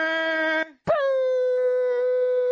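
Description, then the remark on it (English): Someone imitates air horns with their voice: a short, steady, buzzy blast, a brief pause, then a longer blast that swoops up and holds a flat, loud pitch. “I was just hitting the air horns.”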